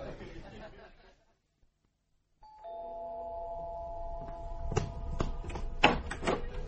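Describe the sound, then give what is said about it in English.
After a brief murmur of voices and a moment of silence, a doorbell rung at 9 o'clock sounds with a steady, sustained electronic tone, punctuated by a few sharp clicks and knocks. “Because you always ring at 9 o'clock.”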